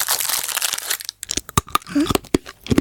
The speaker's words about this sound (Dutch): Dat is iemand die een snoepje openmaakt en daarna koud op het snoepje. Oh ja. Dat is het snoepje.